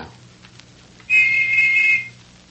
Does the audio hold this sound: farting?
no